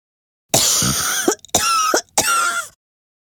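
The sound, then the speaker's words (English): A giraffe coughs loudly: a harsh cough repeated three times in quick succession, each burst raspy and throaty, with brief silent gaps between them. “And then coughs again.”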